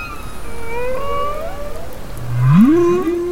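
Underwater whale song in Monterey Bay: long, sliding moans and rising whoops with harmonic overtones, one swelling louder near the end, over a low rumbling ocean background with no talking.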